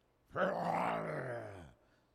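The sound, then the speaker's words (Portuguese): A man lets out a single drawn-out, throaty roar, imitating a lion. The growl is loud and sinks lower in pitch over about a second and a half before cutting off. “Rugindo, estremecendo o telhado.”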